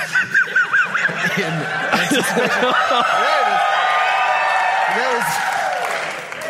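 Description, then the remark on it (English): A large audience bursts into laughter, then breaks into sustained loud cheering and applause, with excited shouts and whoops over the steady clapping before it fades slightly at the end. “We're sitting in front of a whole auditorium. Hundreds of people screaming.”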